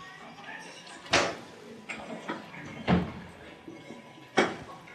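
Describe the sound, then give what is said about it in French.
A door opens as someone enters a Torah class already in progress, with a few sharp knocks and clunks spaced a second or two apart over a low background murmur of voices in the room. “Non, écoute, sérieusement, ferme la porte, écoute, plus personne ne rentre, on ne peut pas étudier comme ça.”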